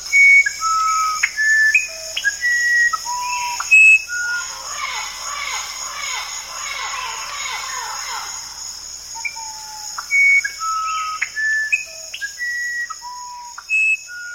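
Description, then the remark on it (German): A musician wren (Orpheus wren), a rare recording from Bernie Krause's sound archive, sings clear, pure whistled notes at varying pitches, spaced in short phrases, over a steady high insect drone and a dense chorus of other forest calls in the middle. “Der Vogelsolist ist ein sogenannter Orpheus-Soundkönig.”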